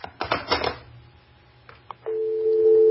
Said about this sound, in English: You there? I hear a busy signal.